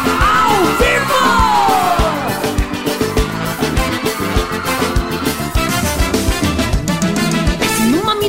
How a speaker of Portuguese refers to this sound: Eu quero ouvir o gritinho da galera.